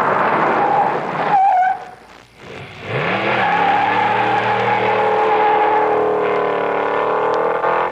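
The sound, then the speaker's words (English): A car engine roars and tires squeal as the car repeatedly stops and starts, dropping to a brief lull, then revving up again with a rising whine and driving on loudly. No one speaks. “There are a lot of ways it can waste gas and money. Stopping and starting too much.”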